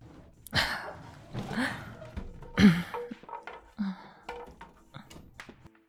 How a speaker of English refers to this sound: Here. Let me move this wardrobe to block the door.